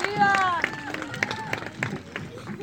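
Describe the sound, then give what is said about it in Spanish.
An audience breaks into warm applause welcoming striking women workers of the Universidad Autónoma Metropolitana (UAM) workers' union, many hands clapping in a dense, steady patter, with a voice calling out over it at the start and crowd murmur underneath. “Las recibimos con un caluroso aplauso.”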